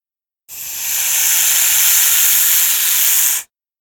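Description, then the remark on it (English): A snake hisses in one loud, sustained breathy burst lasting about three seconds, bright and airy, starting abruptly and cutting off sharply, as it strikes at a woman's face when she opens the box it is in. No voices around it. “Suddenly, something attacks her face. It's the snake.”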